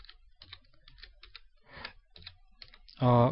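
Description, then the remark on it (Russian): Quick bursts of typing on a computer keyboard as the address google.com is typed into a chat, a series of light clicking keystrokes in uneven runs, ending in a short loud burst of a voice. “Нет, у меня как компьютер тупит, когда включено три записывающие программы, он как-то поплохо реагирует на клавиатуру.”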